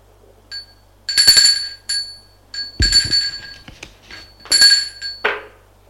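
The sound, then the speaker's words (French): A doorbell at a second-floor door rings in three bright, metallic bursts spaced about a second and a half apart, each with a shimmering high ring and some clattering, with no voices. “sonne à cette porte.”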